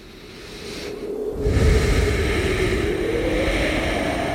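A motorcycle engine revs up, its pitch climbing and growing louder after a brief lull, then holding a steady, throaty roar with no one speaking.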